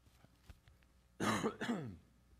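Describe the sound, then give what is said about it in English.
Two harsh bursts of coughing and throat clearing, loud and right up against the microphone, following a few faint clicks in otherwise quiet surroundings. “Sorry, I'm learning to not cough directly into your ears through this thing.”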